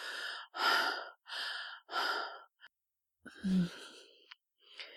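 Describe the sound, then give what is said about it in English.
Heavy, breathy panting of a spent, sweating person after sex, several quick ragged breaths in a steady rhythm, then a brief pause before a few more uneven, gasping exhales. No talking. “You collapse on my back, our bodies glistening with sweat, spent, panting, and oh, so blissful.”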